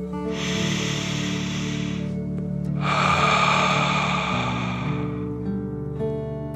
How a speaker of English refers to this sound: As you place your hands on your chest, your heart feels happy and warm. Take a deep dragon breath in and out.